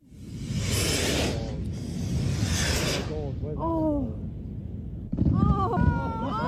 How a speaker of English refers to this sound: stuck his ashes to the fireworks with Vaseline, and sent him off over the sea.